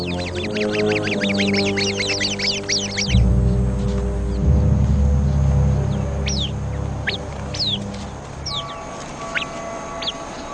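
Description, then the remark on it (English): A rapid burst of sharp, repeated alarm calls from a sentry bird warning of a viper opens the scene, followed by scattered chirps and calls from several birds as the flock gathers for protection, over a low, steady background rumble. “The sentry bird immediately sounds the alarm. The flock comes together for protection.”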